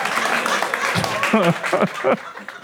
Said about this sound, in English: Applause break.